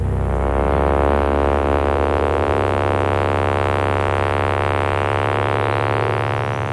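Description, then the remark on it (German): A sawtooth generator tone drones steadily, a low, bright buzz packed with harmonics. It stays loud and unbroken for about seven seconds, its pitch shifting slightly partway through, with no voices. “Der Sägezahngenerator liefert ein breites harmonisches Spektrum.”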